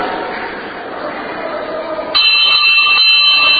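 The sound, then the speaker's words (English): After a couple of seconds of muffled room noise, a loud electric five-minute warning bell suddenly starts ringing, a continuous, steady metallic clang that carries on to the end. “That is the bell, the 5-minute bell.”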